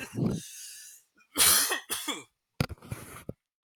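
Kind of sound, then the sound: human body sound, coughing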